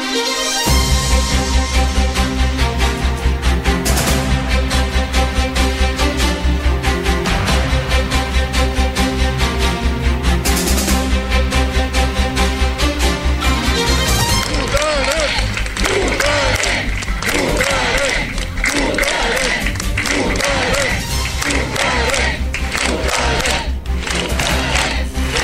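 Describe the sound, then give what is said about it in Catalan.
A dense, loud crowd din at a rally in front of the town hall in Palafrugell, where many people listened to speeches by members of pro-independence groups, the CUP, PDeCAT and Esquerra Republicana: many voices mixed with rhythmic chanting and shouts over a steady low rumble, with bursts of cheering and clapping rising and falling. “Aquest és l'ambient d'ahir a Palafrugell davant l'Ajuntament”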